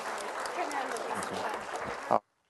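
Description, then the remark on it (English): A church audience breaks into steady, dense applause for children at a morning dedication, many hands clapping at a fairly even loudness for about two seconds before it cuts off abruptly into silence. “So give them a huge round of applause and congratulate them on their dedication this morning.”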